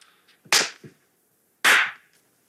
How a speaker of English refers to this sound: I even felt that slap.